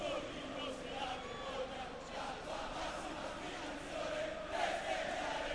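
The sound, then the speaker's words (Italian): A large crowd of granata football fans chants in unison during a Juventus match, a dense, sustained roar of voices with rhythmic swells, steady and loud throughout, rising slightly toward the end. “Coro con tutti i tifosi granati intanto da parte della Juventus”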